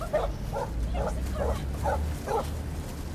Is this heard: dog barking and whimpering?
yes